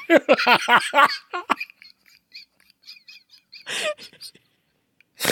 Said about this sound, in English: Sorry, I just snorted.